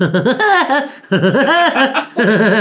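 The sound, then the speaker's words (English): Woody Woodpecker's cartoon laugh: three rapid bursts of high, warbling, staccato cackles with bouncing pitch, loud and alone with brief pauses between. “That was Woody Woodpecker.”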